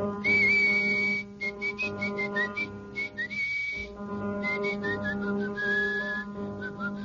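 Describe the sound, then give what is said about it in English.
Mr. Levant whistles a bouncy rhythmic pattern on the radio quiz show Information, Please, in short clipped phrases with a few sliding notes, clear, over a steady low hum in the background. “Would you care to whistle through those teeth of yours, Mr.”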